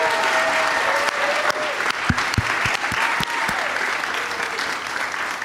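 A live audience applauds steadily throughout for the guests Dan Schechter, Joe DeRosa and Sam Levine, a dense wash of clapping with a few sharper claps standing out, and faint voices mixed into the noise.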